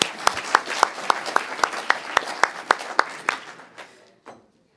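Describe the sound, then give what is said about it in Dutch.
Applause after a man makes his pledge at a swearing-in ceremony: steady, rhythmic, sharp, evenly spaced claps about four per second, fading into a dull wash after a few seconds, with one last clap before silence. “Applaus.”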